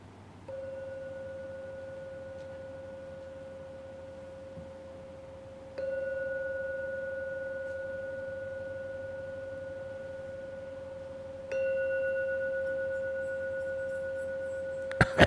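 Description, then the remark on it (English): A gong is struck three times to end a meditation session, about six seconds apart, each stroke leaving a steady, sustained mid-pitched ring that hums on into the next strike, with no voices. “So we'll now ring the gong 3 times.”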